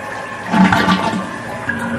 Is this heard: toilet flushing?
yes